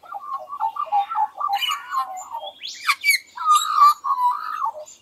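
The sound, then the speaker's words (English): An Australian magpie sings a rich, warbling song with two tones sounding at once from the two sides of its syrinx, sliding and overlapping, broken by a sharp rising squeal midway. Fairly loud, with no talking. “That was an Australian magpie.”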